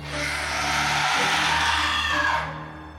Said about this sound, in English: As he's getting up, a hoarse scream pierces his brain.